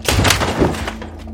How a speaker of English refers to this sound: James kicks open a door.